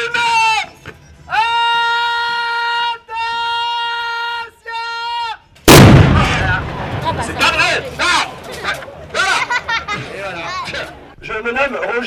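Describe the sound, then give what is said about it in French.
A medieval bombard cannon, the largest piece, able to launch stone balls, fired by performers of the Machina Silente company at a medieval event: one sudden, heavy boom after several sustained, bleat-like tones, and the blast gives way to a crowd murmuring and chattering. “il s'agit là d'une bombarde. C'est donc un canon qui est capable, en tout cas pour cette bombarde-là, de lancer des boulets en pierre”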